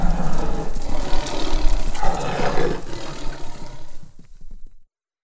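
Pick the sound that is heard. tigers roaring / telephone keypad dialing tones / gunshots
tigers roaring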